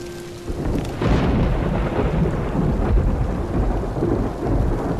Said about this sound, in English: It's good to see the rain. It means Goral is still alive.